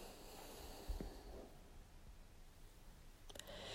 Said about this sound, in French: Expire, flexion complète. Inspire, les bras redressent le dos. Respiration.